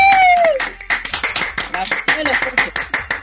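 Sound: applause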